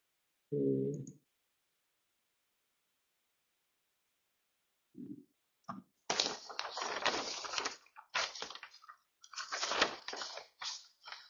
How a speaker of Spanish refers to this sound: Un momentito porque me estoy haciendo un lío con los papeles.